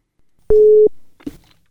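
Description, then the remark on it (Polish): A single steady telephone ringing tone sounds loud and clear for under half a second over a quiet line, followed by a short muffled burst, like a receiver being picked up; a call placed from Radio 90 to a listener. “Zaraz wszystko będzie jasne, bo dzwonimy do niej.”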